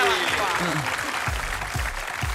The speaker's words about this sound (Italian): Oh, applausi.